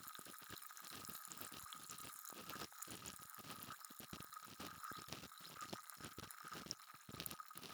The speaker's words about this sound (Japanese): 耳の中すっきりするって。そうでしょう。これだけシュワシュワしてればね。